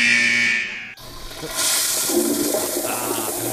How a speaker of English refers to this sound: By the way, that's a new sound effect. Thank you. We could play. For callers when we dump them? The flush?